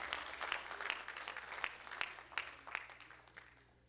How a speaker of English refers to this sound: Come on, give the Lord a hand clap of praise.